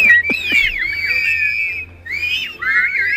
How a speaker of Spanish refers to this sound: Bueno, este sonido en la Puerta del Sol es la Asociación Cultural del Silbo Gomero, que es un tipo de lenguaje particular que ha sido reconocido como Patrimonio Inmaterial de la Humanidad